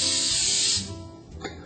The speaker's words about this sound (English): I'm gonna spray it lightly with some pan spray, olive oil pan spray.